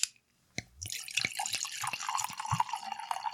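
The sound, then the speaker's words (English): Sake, a Tanaka Rokujugo Junmai, pours into a glass in a steady, bubbling stream, preceded by a soft clink, with bright gurgling tones rising as the glass fills; no one speaks. “And I think we should open them up and get them in our glass and give people a tasting note for each of them.”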